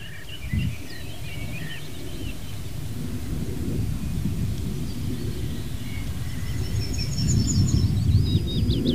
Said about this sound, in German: Ja, dann hören wir auch noch natürlich den Wind, ja, der hier über die offene Fläche rüber peitscht, will ich nicht sagen, weht in die Kiefernkronen rein, die jetzt hoch sind.